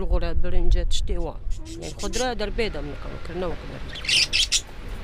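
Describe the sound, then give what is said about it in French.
Several small birds chirp and tweet inside a tent with a fan in a rapid, overlapping stream of bright calls, with voices mixed in and a faint rustling hiss toward the end. “Dans cette tente, il y a un ventilateur et quelques oiseaux.”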